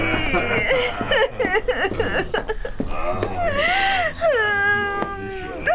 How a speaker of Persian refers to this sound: گریه نکن فداد بشم.